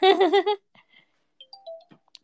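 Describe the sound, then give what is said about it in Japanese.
A LINE app notification plays as a few soft, short electronic blips and a brief rising tone, following a brief hummed vocal sound at the start. Quiet overall. “LINE の音がしてしまった。”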